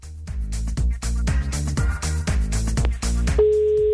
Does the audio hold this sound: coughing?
no